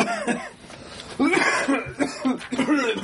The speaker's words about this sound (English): Cough, cough.